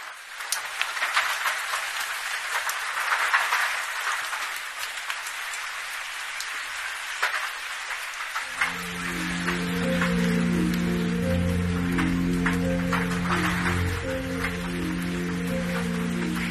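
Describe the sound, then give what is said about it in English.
Steady rain patters densely on a surface, with scattered louder drops throughout; about halfway through, soft sustained music fades in beneath the continuing downpour. “Now I'm even at the point where I quite enjoy the sound of rain again.”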